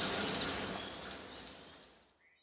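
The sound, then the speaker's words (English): Water sprays steadily from a shower as a man takes his evening shower, a broad hiss that then fades and cuts off near the end. “Every evening, he has a shower.”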